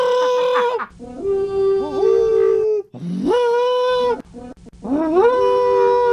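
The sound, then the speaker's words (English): An elk bugle imitated by blowing through a PVC pipe: three loud, sustained whistling-hooting blasts, each sliding up in pitch and wavering, separated by brief pauses. “There's an elk out in the parking lot.”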